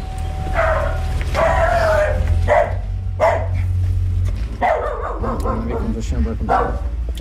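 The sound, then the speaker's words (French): A dog barks repeatedly in a series of sharp, somewhat muffled woofs from behind the door of a house, with a steady low hum running underneath throughout. “Le chien aboie, il ne doit pas y avoir beaucoup de monde à l'intérieur.”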